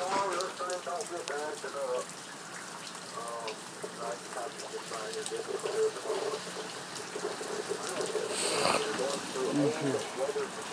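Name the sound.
heavy rain falling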